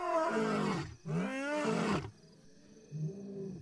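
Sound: loud animal roar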